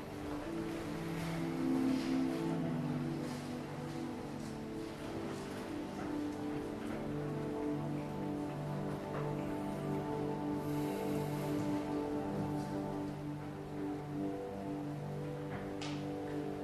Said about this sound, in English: Let's have a little meditation to celebrate the rain. In some countries, they celebrate the rain, right? In other countries, they're not so happy when it rains, depending on many other reasons.